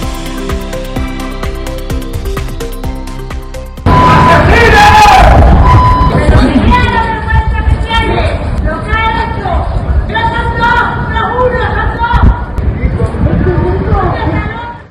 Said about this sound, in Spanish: Son gritos contra Antonio Cava, el intermediario de Manzanares detenido por su presunta implicación en la desaparición y muerte del empresario Juan Miguel Isla.